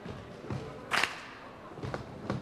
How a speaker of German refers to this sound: Damit wir hier richtig ein bisschen rappen können, würde ich Sie alle bitten, dass Sie zweimal stampfen und einmal klatschen. Das klingt dann so, stampf, stampf, klatsch.